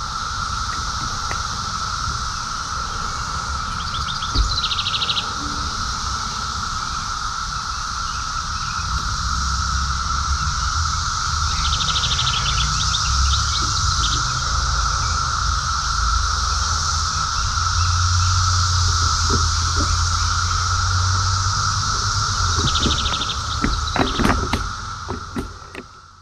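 A dense chorus of periodical cicadas drones steadily from stands of trees in Arlington, Virginia, in the daytime, heard during a stop on a tandem bike ride; an unbroken high-pitched hum lasting throughout, with faint low rumbling underneath and no voices.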